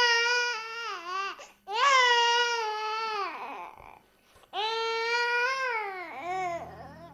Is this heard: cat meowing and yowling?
no